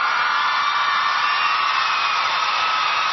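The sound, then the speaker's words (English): A dense, steady roar of crowd noise, a sound effect called Crowd Surge, holds at an even, loud level for about three seconds, a continuous hiss-like wash of many voices with no distinct words or breaks. “Roy, you have a choice of applause, or this one's called Crowd Surge.”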